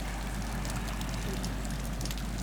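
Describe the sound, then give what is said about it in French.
Faint, steady underwater crackling, a dense patter of tiny clicks and pops over a low, constant rumble, with no voices, heard with the head partly in the water while floating on the back. “J'ai fait la planche et mis un peu la tête dans l'eau et j'ai entendu ce crépitement, là, ce petit crépitement de beaucoup moins fort.”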